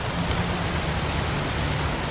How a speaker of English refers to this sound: There is sort of this white noise in the background